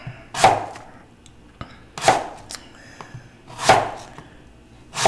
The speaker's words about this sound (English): So more apples being cut right now. And then pears are next. And hopefully not my fingers.